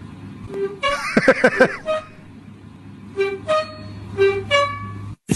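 A squeaking oven door sounds a string of short, high-pitched squeals. A rapid tight cluster comes first, then several spaced, horn-like toots follow in a rough, almost melodic rhythm over a low steady hum.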